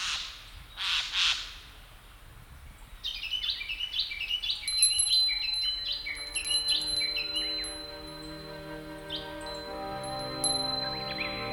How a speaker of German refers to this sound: die Vögel, die nicht nach Süden ziehen